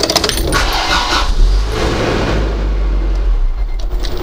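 A sporty convertible car's engine revs, a loud, deep, throaty rumble that holds steady for several seconds with no voices over it.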